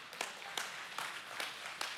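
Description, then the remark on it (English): An audience applauds, a dense wash of many hands with louder claps landing in a steady rhythm about every half second. Nobody speaks over the clapping. “That deserves a clap.”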